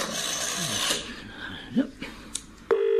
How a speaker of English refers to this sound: Oh, it's ringing.